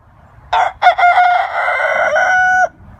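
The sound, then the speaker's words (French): A rooster crows once, loud: a couple of short opening bursts, then a long sustained cock-a-doodle-doo that holds steady before cutting off, with only faint background noise around it. “Si ce maudit coq chante, ça signifie que mon intro était trop longue, que vous vous êtes endormis comme des bâtards pendant que je vous parlais, et qu'il faut maintenant que je vous réveille.”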